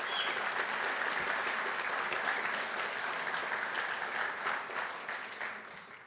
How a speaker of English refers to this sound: Thank you. I'd like to first ask for a round of applause